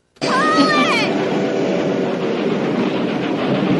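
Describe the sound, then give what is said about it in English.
A loud, steady train roar in a film scene, with high metallic screeching for the first second before settling into a continuous rumbling clatter. “Here, it's Charles trying to yell to them over the roaring noise.”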